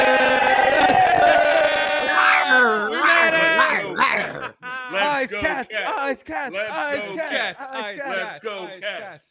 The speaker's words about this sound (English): Okay, for real, though. Chanting, right?